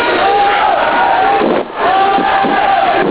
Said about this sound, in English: The people united will never be defeated! They're shouting, the people united will never be defeated.